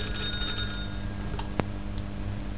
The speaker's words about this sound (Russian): И вот однажды в его кабинете на 130-м этаже раздался телефонный звонок.